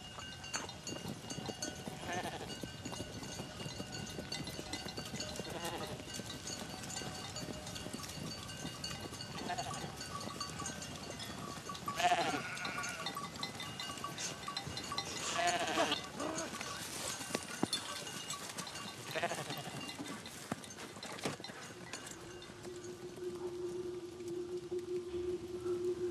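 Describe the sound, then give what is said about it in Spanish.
A flock of sheep bleats in scattered calls over a steady outdoor wash, three miles from Canaan, with a few louder cries standing out midway and faint bells or clatter in the background. “¿Pero qué pasa con las ovejas?”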